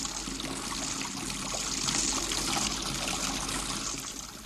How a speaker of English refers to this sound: Yes, it's a sound we hear every day, water running from a tap.